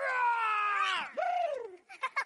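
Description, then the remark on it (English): A loud, drawn-out lion roar, stylized and high-pitched like a voice imitating it, sliding downward over about two seconds, followed by a few short, breathy bursts. “Okay, you asked for it. Lion.”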